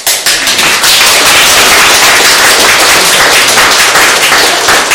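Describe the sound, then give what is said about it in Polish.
A crowd applauds steadily, many hands clapping into a dense, crackling wash of sound that stays loud and even throughout, with no voices standing out; the applause is for a visiting priest from Piła. “Kochani, te brawa, które słyszeliście, to były dla czcigodnego księdza”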